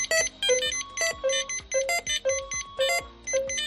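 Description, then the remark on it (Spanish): Repeated electronic beeps from ICU (intensive care unit) hospital monitoring equipment, several overlapping alarm tones pulsing in a steady rhythm about twice a second, insistent, with no voices. “Esos pitidos que no sabes qué significan pero que te ponen nervioso es lo que ha eliminado el UCA.”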